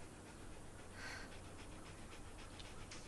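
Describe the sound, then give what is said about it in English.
A female dog pants steadily in quick, breathy rhythmic puffs, fairly quiet against a low constant background hum. “It's Bob Platt's dog. I was hoping she would settle in.”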